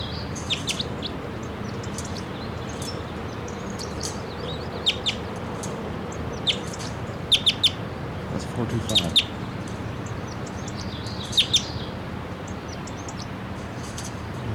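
Short, high-pitched bird song phrases repeat in scattered bursts, with quick chirpy notes and trills rising above a steady low background rumble.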